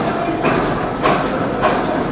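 An old paper-making machine runs with a steady, dense mechanical roar, marked by a rhythmic thump or clack roughly every half second. No voices are heard.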